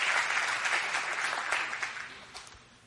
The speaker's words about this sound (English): It's great to carry a Bible in your purse or in your briefcase, but the best place to carry the Word of God is in your heart. That's where one person clapped. Thank you.